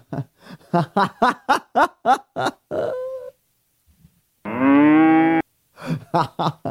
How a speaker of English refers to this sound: Hey cows. So yeah, we got cows in the studio today.